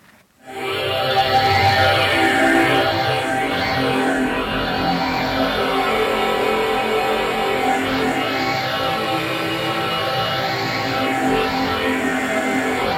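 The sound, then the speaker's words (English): A dense, sustained drone from an instrument of a laptop orchestra swells in within the first second and holds steady and loud, layered with many tones and slow sweeping shimmers in the upper register, with no voices. “Fourth one is a drone.”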